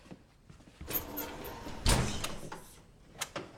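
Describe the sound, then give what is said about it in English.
A set of French doors swings open with a soft rattle as a cat slips out, then shuts with a solid thud, followed by a couple of faint latch clicks; no one speaks. “The cat slips out of the French doors”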